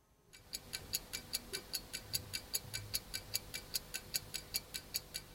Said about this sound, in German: Das Ticken der Uhr ist eine Ikone der Vergänglichkeit.